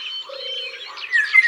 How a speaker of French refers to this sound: Il y a aussi un loriot dans les arbres.